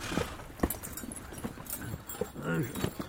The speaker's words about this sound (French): Je vous prie, monsieur le châtelain, d'avoir grand soin de mon cheval, car entre toutes les bêtes qui mangent du foin, sachez qu'il n'en existe point de meilleur.